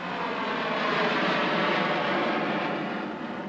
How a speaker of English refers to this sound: Sometimes, when it's slow, to the airport we go. We get in the line at the stand. We wait for a fare and a hot dog we share, while we watch the planes take off and land.